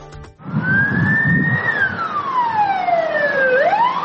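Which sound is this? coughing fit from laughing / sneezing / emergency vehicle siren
emergency vehicle siren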